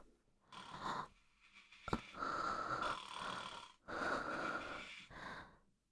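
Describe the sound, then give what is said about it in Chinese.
A parent's loud, raspy snoring with three rough breaths in a row, the last two long and drawn out, plus a brief sharp click between them. No one speaks. “弟弟，这是妈妈的呼噜声，还是爸爸的呼噜声？”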